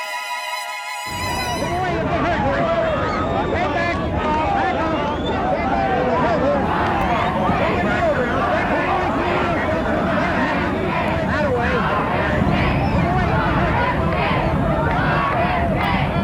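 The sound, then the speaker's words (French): An excited crowd chants and shouts the campaign slogan "Kennedy for President" on a hot afternoon in late May 1968 in Oregon, a loud, dense roar of many voices that swells in after a brief silence and continues unbroken to the end. “Kennedy for President, c'est le slogan que scande la foule surexcitée.”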